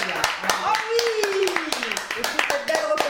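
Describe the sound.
A small group of people in a studio claps in quick, uneven bursts, with voices talking and exclaiming over the applause throughout.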